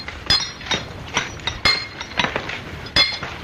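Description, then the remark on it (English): A double-jack sledgehammer rings sharply against a hand-held steel drill rod held by a man, about seven bright metallic clinks in an irregular working rhythm, fairly loud with no voices. “Man with a double jack. All he needs is a good... Double what? Jack! The man holding the drill.”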